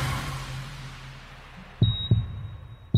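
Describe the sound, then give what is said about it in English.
A few deep, muffled heartbeat thumps sound fairly loud after a low hum, while a steady high-pitched electronic tone rings alongside them. “Come on, Jesus. Make the heartbeat.”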